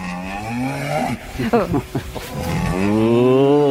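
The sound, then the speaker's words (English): A cow moos loudly, two long, drawn-out lowing calls separated by a short stretch of rougher, broken grunting sounds, with no other noise around them. “Cows can be quite frightening. Yeah, especially that sound.”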